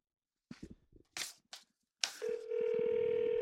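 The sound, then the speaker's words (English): A few quick clicks and knocks as buttons are pressed on a phone to dial through the IGN phone system, then a loud, steady mid-pitched telephone tone that holds without a break to the end. “Trying to navigate the labyrinth of the IGN phone system.”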